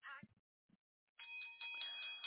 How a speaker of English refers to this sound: Do you hear that bell? That bell is just for you and all those who accepted Jesus.